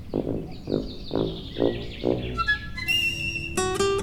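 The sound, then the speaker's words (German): A blackbird sings in a garden, starting with a quick series of short chirping notes and then moving into clear, whistled phrases that ring out brightly. No one is talking. “Das war die Amsel.”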